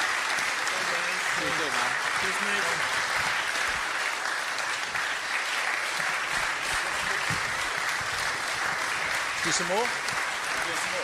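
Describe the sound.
Sustained, dense applause from a crowd for a man who is leaving, steady and loud for about eleven seconds, with faint voices and a few cheers or whoops rising above the clapping.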